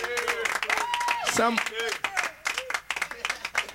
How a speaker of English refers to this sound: Y'all a beautiful crowd tonight. Give yourself a hand. You motherfuckers are lovely.